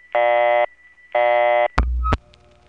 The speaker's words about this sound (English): Woodland Hills 3-5 signature noise is on the busy signal too. I'll filter out the tone so it's emphasized. And here's that noise again, this time under the busy signal.